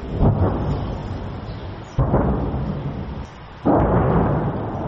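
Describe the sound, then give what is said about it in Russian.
Heavy, echoing booms of battle explosions from the town's surroundings roll in three waves, each striking with a sudden low blast and then a long rumbling tail that fades into the next. No one speaks. “С окрестностей доносится эхо боя, очень громко.”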